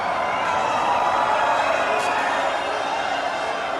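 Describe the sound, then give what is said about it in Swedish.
A crowd of several hundred fans cheers loudly and continuously as Bolsonaro walks out through revolving doors into the waiting hall of Fortaleza airport, a dense roar of many overlapping voices with no pauses. “Och när Bolsonaro till slut promenerar ut genom svängdörrarna bryter ett öronbedövande jubel ut.”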